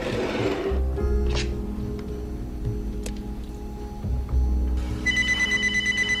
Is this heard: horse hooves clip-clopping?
no